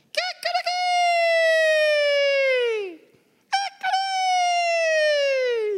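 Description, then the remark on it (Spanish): A rooster crows twice: each call opens with a few choppy, stuttering notes, then stretches into a long, loud, strained cry that slowly sinks in pitch, with a short pause between them. “El Señor le dijo, antes que cante el gallo, ya tres veces me vas a negar.”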